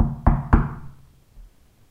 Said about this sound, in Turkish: Farah bir akşam vakti ustası, ünlü öykü anlatıcısı Ebu Ali'nin kapısını çalmış.